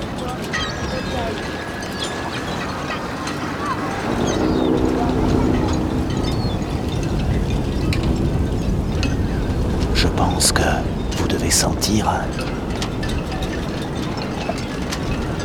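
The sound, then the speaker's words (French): A boat carrying a group of children comes back to a pontoon from a trip over choppy, rather rough sea, its engine droning under steady gusting wind and sloshing waves, with sharp knocks and splashes. People's voices are faintly mixed into the blustery scene. “Un groupe d'enfants revient d'une balade en bateau par une mer plutôt agitée, comme vous pouvez l'entendre.”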